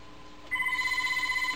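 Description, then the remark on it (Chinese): A telephone starts ringing about halfway through, a steady electronic trill with rapid pulsing, fairly loud, after a quiet stretch with no one speaking. “上个电话。 我 的。你的阿妈会接不？”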